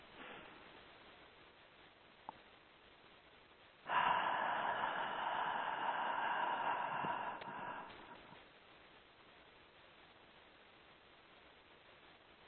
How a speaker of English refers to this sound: Together, we'll take a nice deep breath in and exhale everything out with a sigh. So, breathing in.